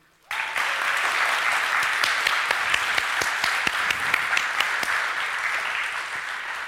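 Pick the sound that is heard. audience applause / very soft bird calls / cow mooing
audience applause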